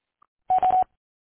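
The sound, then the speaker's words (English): A single short electronic beep from a voicemail answering machine, marking when to leave a message, a steady mid-pitched tone lasting about a third of a second, loud and alone after a tiny click, with silence around it. “At the tone, please leave your name and phone number, and I'll get back to you as soon as I can.”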